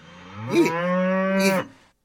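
A single loud, drawn-out cow moo, lasting over a second with a rich droning tone that swells at the start and end before cutting off, with no other sounds around it.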